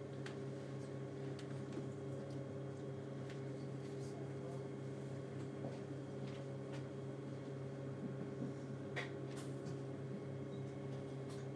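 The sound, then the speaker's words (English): A train pulling into a station: a steady low mechanical drone with humming tones, broken by scattered light clicks and rattles, with faint indistinct murmuring underneath. “A good indication that we are actually pulling into a station.”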